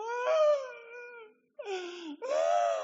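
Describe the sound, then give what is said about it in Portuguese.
A voice imitates the mournful wailing of a hired funeral mourner, a woman paid to cry at a wake, in three drawn-out, quavering cries with a brief pause between them, loud, with no other talk. “Para quem não sabe, carpideira eram mulheres contratadas para chorar em velório.”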